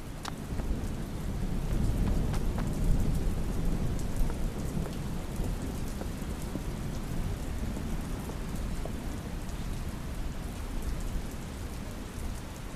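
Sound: heavy rain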